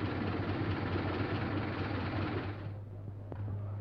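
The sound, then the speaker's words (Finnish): A motor sled engine runs steadily, a loud, rough drone with a deep hum that eases slightly in its final second, as the motor sled travels from the shore to the middle of an island, with a sleigh carrying recording equipment at its front. No voices are heard. “Ja tällä kertaa suoritamme matkan kelkkapelillä.”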